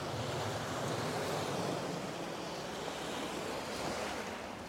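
Ocean waves wash onto a beach in a steady, continuous roar of surf, fairly loud, with some wind noise mixed in and no voices.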